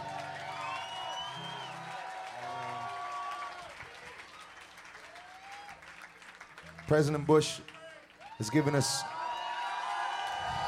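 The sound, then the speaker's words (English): A crowd cheers and applauds with steady, dense clapping and scattered whoops, swelling into two louder bursts of cheering near the end before settling back. “President Bush, I thought you were cheering President Bush.”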